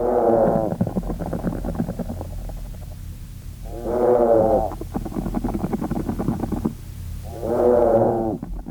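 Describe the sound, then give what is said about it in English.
Low, droning moo-like calls swell in three loud, harmonic bursts, separated by buzzy, crackling pulses; the vibrational calls of a group of treehoppers, recorded in the field, overlap in a rhythmic, almost synchronized chorus with no talking. “This sounds like almost like a synchronized mooing, Professor.”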